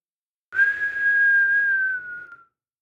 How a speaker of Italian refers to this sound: Ma proprio mentre si stavano divertendo tantissimo, si udì un fischio.